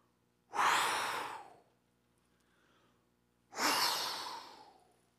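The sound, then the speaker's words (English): Two long, forceful exhalations demonstrating God breathing life into Adam's nostrils, each a loud, breathy rush that fades out, separated by a quiet pause with a faint softer breath between them. “And the God-man is literally leaning over him, breathing life into him.”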